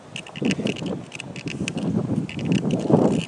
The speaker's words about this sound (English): So it's windy. I can't hear.